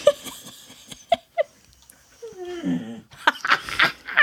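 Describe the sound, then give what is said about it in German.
A dog vocalizes: a few short yips and snorts, then a drawn-out whining moan, ending in a flurry of breathy, excited yelps. “Sieht der Hund genauso.”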